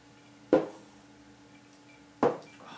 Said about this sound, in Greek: μας έχει φέρει εδώ πέρα Σίβας. Δωδεκάρι, έλα να τσουγκρίσουμε, έλα πάμε. Στην υγεία σας.